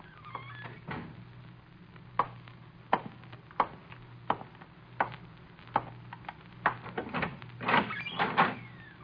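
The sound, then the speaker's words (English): An office door lock being worked and the door opened: a series of sharp metallic clicks and knocks at irregular intervals, ending in a brief rattling scrape, over a low steady hum. “He's trying to unlock the door.”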